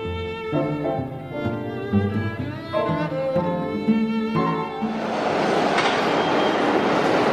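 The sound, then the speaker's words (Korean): On September 8, the first train in 17 years pulls into the reopened WTC Cortlandt station of the New York subway, its drawn-out metallic whine and screech giving way to a loud, steady rushing roar as the cars arrive. No one speaks. “9.11 테러 17주년을 며칠 앞둔 지난 9월 8일 WTC 코틀랜드 역으로 첫 번째 열차가 들어옵니다.”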